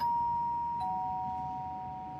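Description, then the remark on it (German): A doorbell chimes a clear two-note ding-dong, the second slightly lower tone following under a second after the first, both ringing out and fading slowly over a faint background hum. “Ganz oben auf der Klingel steht der Name eines IT-Unternehmens.”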